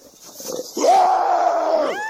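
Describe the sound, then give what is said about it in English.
A person lets out a loud, sustained roar imitating an angry bear, lasting about a second with a strained, tonal growl that rises in pitch at the end, following some quieter breathy sounds. “I hope you all heard that so you could take a deep breath and make your bear sound today because it was a bear out there.”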